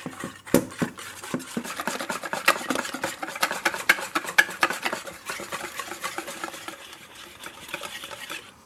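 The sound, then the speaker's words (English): Rapid, steady whisking of batter with a whisk in a bowl, blending flour and other ingredients until smooth and frothy: a continuous run of quick metallic clicks and scrapes with a wet, swishing texture, fairly loud and uninterrupted, easing slightly toward the end. “Now what you're going to have to do is use your whisk to blend everything mm-hmm. until it's really smooth and frothy.”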